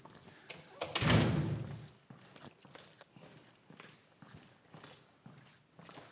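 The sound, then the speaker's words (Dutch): A loud, broad rush like a heavy door swinging open, followed by a steady series of footsteps entering a Reformed church hall at a moderate pace. “En dan stappen we naar binnen.”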